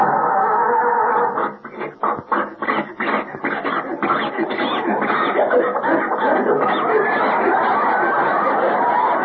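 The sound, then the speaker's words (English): Mel Blanc imitates a car starter cranking as the starter is stepped on, a rapid, rhythmic grinding chug that sputters and wheezes on without the motor starting, fairly loud and alone. “And when I get in my car and step on the starter, does the motor start? No.”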